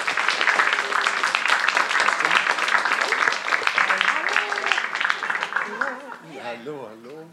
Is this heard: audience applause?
yes